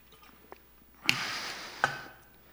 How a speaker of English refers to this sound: Give me 1 second to get some water here.